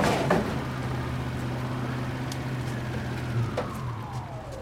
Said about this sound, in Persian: یک پیکان وانت که عقب اون کلی بچه نشستن وارد میشه.